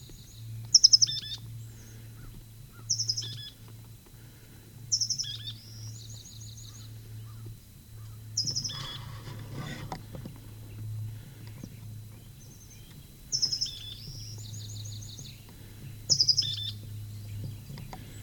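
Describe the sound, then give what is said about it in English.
A bird up a gully sings in short, high, bright phrases repeated every couple of seconds, each a quick burst of chirps followed by a rapid trill, over a low steady hum. “Nine 14, next bird up the gully.”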